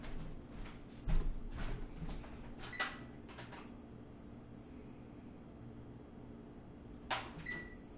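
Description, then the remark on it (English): A dish is slid into a preheated oven to bake for about an hour: a run of clanks and knocks, a sharp ringing clink, then quiet over a steady appliance hum before a final metallic clatter. “Put it in there. Bake for about an hour.”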